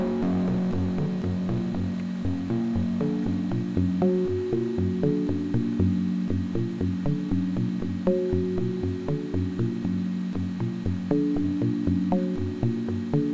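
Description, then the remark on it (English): A clean, unmodified guitar sound synthesized with the Karplus-Strong string synthesis algorithm, distortion turned off completely, plays a steady run of individual notes, each with a crisp pluck-like attack over a sustained low tone, with no voices. “And turn it off completely.”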